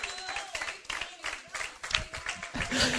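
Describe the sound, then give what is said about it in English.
An audience at a worship service claps their hands in praise to God in a dense, continuous burst lasting several seconds, with faint voices and a sustained tone mixed underneath. “Clap your hands to Him right now.”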